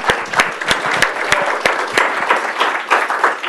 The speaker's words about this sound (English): So again, I just wanted to give you guys a round of applause.